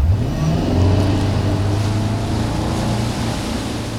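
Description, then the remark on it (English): A motorboat engine drones low and steady, its pitch shifting slightly, with rushing water and spray hissing over it throughout, as the boat tows a wake surfer on a rope. No one speaks. “Similar to water skiing, a wake surfer is towed behind a boat with a rope, but the person eventually lets go to surf the large waves left in the boat's wake.”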